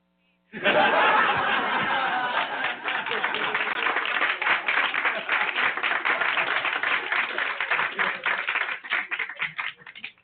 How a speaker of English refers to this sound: Big round of applause for Barack Obama, who could have been elected again.